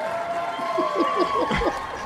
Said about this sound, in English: You can definitely tell that's a fake crowd now in this stream.